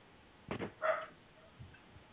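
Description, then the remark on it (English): A dog gives two quick barks, the second higher and more yelping, sounding somewhat muffled, followed by quiet room noise with no one talking. “I just shut the door for the dog.”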